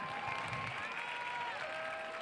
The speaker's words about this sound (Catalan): Moltes gràcies. Un fort aplaudiment per a aquesta penya.